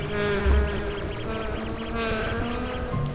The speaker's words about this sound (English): I'm in a vast room with lots of wasps. I don't want them to survive, so I throw handfuls of sand at the wasps.